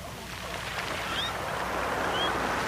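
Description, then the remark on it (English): A reversed beach recording of ocean waves makes a steady, swelling wash of surf, with a couple of brief, thin seagull cries streaking over it. The cries sound backward. No one speaks. “Behind me right now, my ambiance, some beach sounds of ocean waves and seagulls sonically reversed.”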